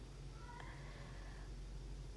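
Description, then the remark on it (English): A single drawn-out cat meow sounds softly in the background, rising briefly and then trailing off over a steady low hum. No one speaks. “I hope you cannot hear my cat in the background.”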